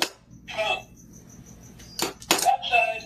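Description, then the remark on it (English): Stella the dog scratches at a door in several short, raspy bursts, fairly loud, with brief pauses between the clawing strokes and a faint high tone in the background. “Then Stella scratches at the door.”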